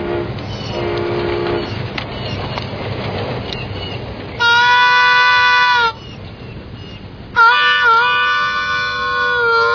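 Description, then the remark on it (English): A train in Greenville, Mississippi rumbles steadily, then sounds two long, loud horn blasts, the second carrying on to the end while the clatter of the cars continues underneath. “Hey, look at that train over there.”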